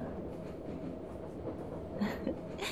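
Steady low rumble of a train rolling along the tracks, heard from inside a carriage, with a few brief metallic squeals near the end and no voices.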